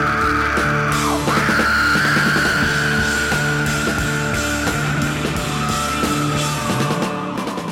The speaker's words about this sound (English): comes in screaming just after the whisper of the title of the song